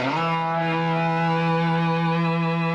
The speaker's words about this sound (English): And he went away and came back with this phenomenal thing. A distortion pedal, which overloads the signal.